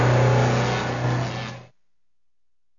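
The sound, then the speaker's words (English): A car engine revs loudly as a new car arrives, a steady low rumble for about a second and a half, then cuts off abruptly into silence. “And today, you're showing up in your new car and telling me you're buying a house?”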